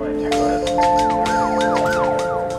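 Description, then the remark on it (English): Emergency vehicle sirens wail in overlapping rising and falling sweeps, loud, with steady tones layered underneath and sharp bursts of noise, in a Kansas City neighborhood at nearly 3 a.m. on Sunday, September 9th. “Sirens tore into the silence of a Kansas City neighborhood early the morning of September 9th.”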